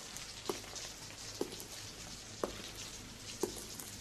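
Steady, soft hiss of rain pouring outside a window, with distinct drips landing about once a second over the continuous wash. Quiet and even, with no voices.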